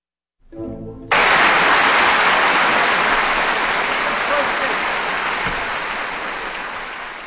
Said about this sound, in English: Applause for violinist Itzhak Perlman and the Israel Philharmonic, led by Zubin Mehta, in the 1904 Violin Concerto by Alexander Glazunov, here on Kansas Public Radio.